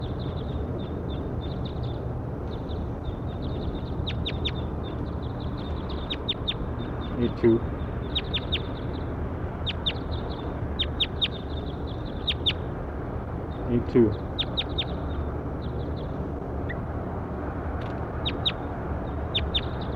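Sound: bird calls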